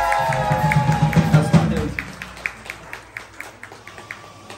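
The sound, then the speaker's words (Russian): Audience applause at a concert welcoming a finalist of the TV show The Voice (Голос), dense and mixed with a voice and tonal sound at first, then thinning after a couple of seconds to sparse, evenly spaced claps that continue faintly. “Так артистов не встречаю, друзья, но аплодисменты.”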